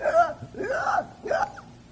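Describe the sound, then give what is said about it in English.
A voice imitates labored, wheezy gasping for breath, as an asthmatic under maximum condition, with three strained, breathy intakes in an uneven rhythm, moderately loud, with no words spoken. “gasping for breath as an asthmatic under maximum condition.”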